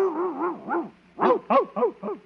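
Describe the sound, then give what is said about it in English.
A dog in a kennel lets out a wavering whine that breaks into a quick run of sharp yips and barks, about seven in a row, fairly loud, with no talking. “No, just my dog.”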